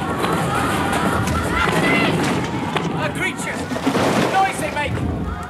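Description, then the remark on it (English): A loud, continuous earthquake rumble in an audio drama, with a shower of rocks crashing and clattering down by a vault and buttresses collapsing, dense and chaotic, while a voice briefly shouts over the din. “The earth quakes and shudders.”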